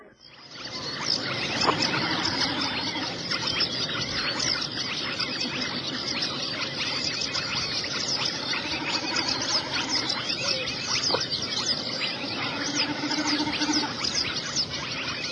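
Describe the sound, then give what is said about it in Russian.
A rufous-vented tit, disturbed at its nest, gives shrill, agitated alarm calls that chatter nonstop, a dense run of harsh, rapid squeaks and clicks filling the whole stretch with no voices. “В согласии с этой синицей-гранадеркой, что верещит, потревоженная у гнезда.”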